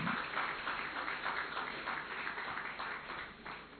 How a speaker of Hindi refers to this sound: और कोई भाई ताली तो बजाओ जरा अच्छी तरह से।